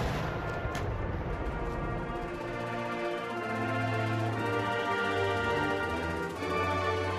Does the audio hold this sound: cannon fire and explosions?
yes